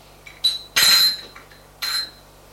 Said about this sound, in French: Prend une cuillère sur l'évier.